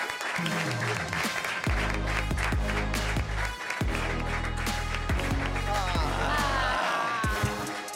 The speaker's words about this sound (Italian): Eccolo che arriva, un applauso ragazzi!